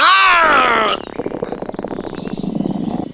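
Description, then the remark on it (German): A short, loud, tonal growl, the mouse's angry growl in The Gruffalo, gives way to a long, low, bubbling rumble of the mouse's stomach growling, uneven and churning for a couple of seconds. “Doch beim zweiten Mal knurrte auch der Magen der Maus.”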